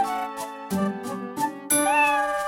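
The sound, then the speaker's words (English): A cat meows several times in quick succession, fairly loud, with drawn-out, tonal cries and a longer, stronger meow at the end. No one speaks. “What a pretty little cat! Please tell that little cat not to chew on my hat.”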